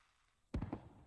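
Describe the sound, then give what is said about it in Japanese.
After a brief hush, a firework bursts on a summer night, watched from a veranda, with a sharp, sudden boom, followed by a few rumbling crackles that quickly fade. No one speaks. “綺麗ですね、花火。”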